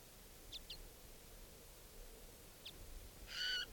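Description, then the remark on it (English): A juvenile wild bird calls from the trees: a few short, high-pitched notes in brief bursts, then a louder, stacked screech near the end, all over a steady faint background hiss. “The other wild bird still up in the trees calling.”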